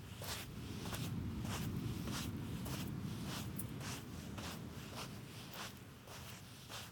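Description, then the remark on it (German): A camel named Caro plodding through sand by the sea, heard from her back, her soft crunching footfalls falling in a steady, even rhythm over a continuous low rumble of wind or surf. “Auf Caros Rücken sieht man nicht nur das weite Meer, man hört auch ihre Schritte im Sand.”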